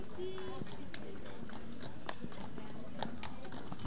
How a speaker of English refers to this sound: Horse-drawn carriages. I feel like I've time-traveled.